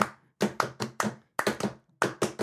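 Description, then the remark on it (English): An audience stomps their feet in a steady, driving rhythm, heavy thuds landing in quick groups of beats, loud with no voices. “Now that you got that beat, let me hear you stomp your feet.”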